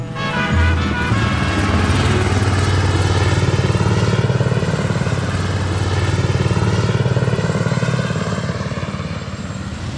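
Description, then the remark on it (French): A helicopter drones loudly and steadily overhead, its deep, buzzing engine hum holding for the whole stretch and swelling slightly as it passes, with no voices. “Hélicoptère là. Ils ont perdu quelque chose.”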